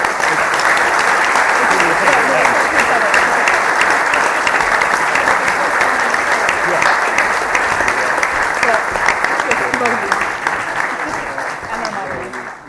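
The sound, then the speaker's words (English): A sustained round of applause from a crowd for a discussion panel, dense and loud clapping holding steady for about ten seconds before gradually thinning and fading out. “I think at this point it's customary for a round of applause for our fantastic panel.”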